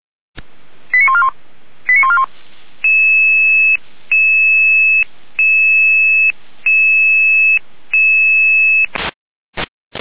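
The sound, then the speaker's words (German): Pager alert tones of the Volunteer Fire Brigade of Apolda, Germany (daytime response group 2), calling out to a burning rubbish bin at Apolda station: a couple of quick warbling bursts, then five long, steady electronic beeps at an even pace, loud and clear with no voices, ending in a few sharp clicks. “Hier nochmal Alarmierung.”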